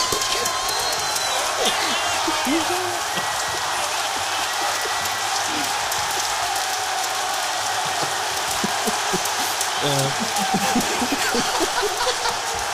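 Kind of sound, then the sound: crowd, applause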